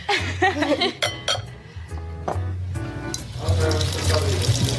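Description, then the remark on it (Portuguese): Tap water runs into a metal pot that barely fits, a steady hissing splash broken by clinks and clanks of cookware being shifted around. “sabes onde é que eu posso arranjar uma panela mais pequenina? Não cabe. Vou falando de água.”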